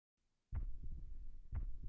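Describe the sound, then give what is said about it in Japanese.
A muffled heartbeat thumps low and deep, two beats about a second apart over a dull internal hum, with no talking. “ほら、ドキドキ、ドキドキ、ドキドキ。”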